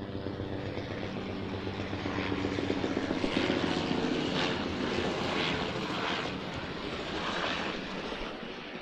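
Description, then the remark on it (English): Arriving helicopters thunder overhead, a dense roar of rotor chop and engine whine that swells slightly midway and holds steady and loud throughout, with no one speaking. “That's it, and the helicopters are here now, so I better get going.”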